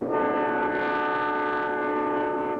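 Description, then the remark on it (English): A freight train rushing over a bridge overhead sounds its horn in one loud, sustained chord that holds steady for a couple of seconds, overpowering, with no voices. “A freight train approaches a bridge, where Kit and Holly are waiting with the car.”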